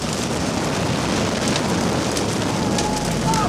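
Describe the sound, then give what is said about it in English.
The Miller family's house burns at night in snow and howling wind, the fire roaring steadily in a loud, unbroken wash of noise, with faint crackles and pops flickering through it and no voices; filmed on a camera by an onlooker. “Beneath the howl of the wind, there is a roar of something far more sinister. A house is on fire.”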